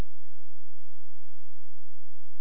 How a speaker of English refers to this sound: Cue cricket sounds